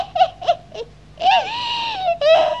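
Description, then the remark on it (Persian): Three quick, gulping sobs give way to a long, drawn-out wailing cry and one more wail at the end, loud, with no speech, an acted, exaggerated crying fit by the character Mr. Mouse in a story. “ای داده بیداد آقا موشه، حالا چرا داری گریه میکنی؟”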